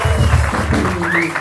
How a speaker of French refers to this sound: Applaudissements.